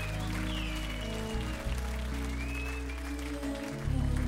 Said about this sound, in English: Let's give music a nice round of applause, because of music we are gathered here tonight.